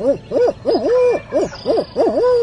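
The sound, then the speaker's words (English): A turkey hunter on a mountain ridge in the early morning imitates an owl with a rapid series of rhythmic, rising-and-falling hoots, loud, repeated in short bursts with brief pauses between. “I pause to owl hoot.”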